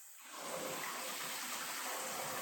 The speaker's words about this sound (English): Taking a relaxing bath. Yeah. Okay. Yeah, look at me fucking wasting water.